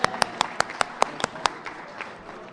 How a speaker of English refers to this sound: All right, well, let me put it to you this way. I want to take a little poll here. Clap your hands if you have a raffle ticket in your pocket.